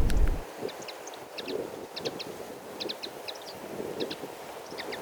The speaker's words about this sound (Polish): O, rzepołuchów nie ma, ale są makolągwy. Kląskają.